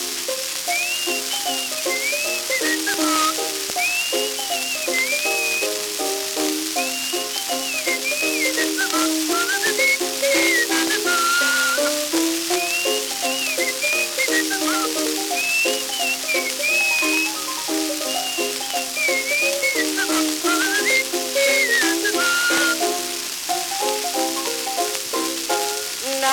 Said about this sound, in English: His voice, it was a musical, he couldn't sing a tune, but he could whistle like a nightingale in June. And early every morning he'd go walking to his work, he would whistle up the same old tune.